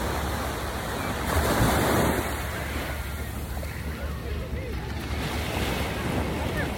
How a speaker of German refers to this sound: Ach, hör diese Wellen, die ankommen. Diese Weite.